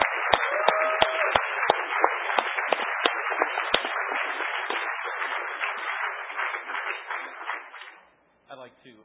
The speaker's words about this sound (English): And I think it really worked flawlessly this time. And you guys deserve an incredible round of applause for that.